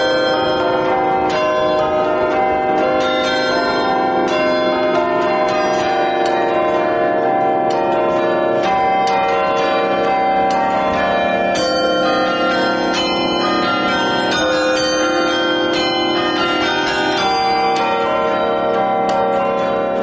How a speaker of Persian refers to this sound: بعضی کلیساها ناقوس‌های متعددی به اندازه‌های مختلف دارن که یا با کشیدن متناوب ریسمان نواخته میشن یا حتی پدال یا شستی‌های بزرگ چوبی دارن که مثل ارگ به ترتیب با فشار دست و آرنج نواخته میشه.